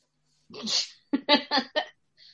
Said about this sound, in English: Sorry, give me a moment. I need to blow my nose because I'm that disgusting.